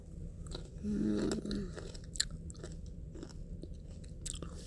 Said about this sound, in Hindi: और जब मैं फ्रूट्स खा रही हूँ ना, इनका जूस पीने का तरह। और जूस पता है कैसे मिलेगा? जब मैं इन फ्रूट्स को चबाऊंगी।